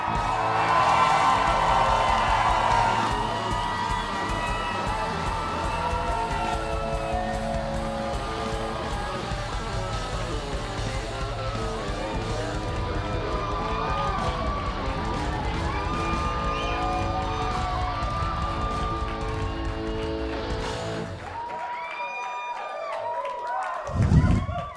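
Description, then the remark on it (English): The Packers Live studio crowd cheers and whoops loudly and steadily for over twenty seconds to welcome two-time MVP Aaron Rodgers, with high-pitched shouts scattered through the roar before it fades and a voice cuts in at the end. “I think the crowd's excited.”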